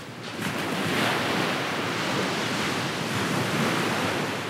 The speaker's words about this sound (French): Dans les ténèbres, des flots ténébreux se balançaient, montaient les uns sur les autres et détonnaient comme des canons. Une sorte de rythme faisait de ce bruit une mélodie terrible.